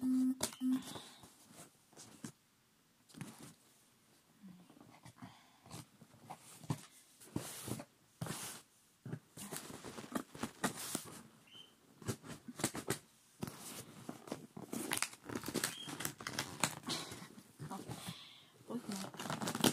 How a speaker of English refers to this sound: So right, okay, I'm gonna open it now. So I've got some scissors.